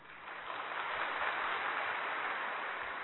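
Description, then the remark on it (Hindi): A crowd applauds steadily, with dense overlapping claps forming a continuous wash of sound that rises slightly at the start and holds even and fairly loud, with no voices. “इसलिए हम सब की जवाबदारी क्या है, ताली बजाना नहीं”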